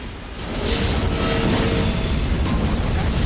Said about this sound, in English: The sled launches out of the end of the tunnel, just ahead of the ball of flame that erupts into a massive explosion. The Predator and Lex race away, but are blown forward by the force of the explosion.